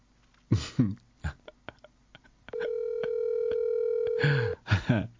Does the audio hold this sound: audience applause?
no